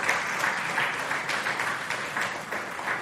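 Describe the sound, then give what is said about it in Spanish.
A church audience claps steadily as an offering of applause to God, a dense wash of many hands applauding at an even level throughout, with no voices rising above it. “Dale una ofrenda de palmas al Dios de la gloria.”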